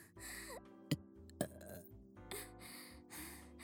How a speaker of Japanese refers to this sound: やば、おっきいの来る。すごいの出ちゃった。こんなゲップ初めてだよ。